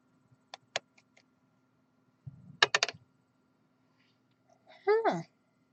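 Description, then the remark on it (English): Papers shuffled and shifted on a desk: a few light clicks and taps, then a short burst of crisp rustling, followed by a brief vocal sound. “Let me move some papers.”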